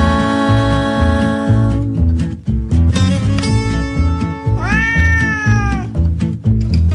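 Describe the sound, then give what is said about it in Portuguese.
A drawn-out cat meow rises and falls over bouncy, rhythmic music with a steady beat, standing out clearly near the end amid bright tones. “Marra, miau, marra, miau.”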